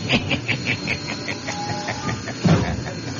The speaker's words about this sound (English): Listen to that old train dragging up that grade.